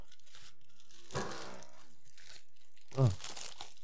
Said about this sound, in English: All right, I'm opening this first package.